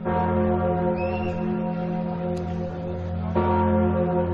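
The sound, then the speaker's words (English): Deep bells of Notre-Dame Cathedral in Paris, France ring loudly at night, marking 10 years since a terrorist attack, with long, overlapping harmonic tones; a fresh strike arrives near the end as the previous peal keeps sustaining and humming. “The bells of the famed Notre-Dame Cathedral rang out tonight as people laid flowers at a makeshift memorial to honor those killed.”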